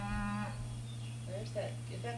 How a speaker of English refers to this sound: Is that the calf again? That's the cow. She's hollering for this calf that's in the lot. We got him up. She's going to come see that.